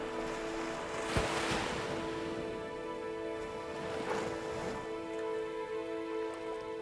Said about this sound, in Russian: Волна за волной. Мы принимаем эту новую игру. Эту новую игру океана вечности. Волна. Еще одна волна.